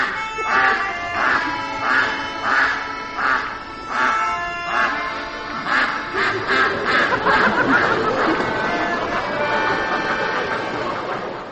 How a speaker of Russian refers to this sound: Это был ахающий гусь из спектакля «Невидимый цирк».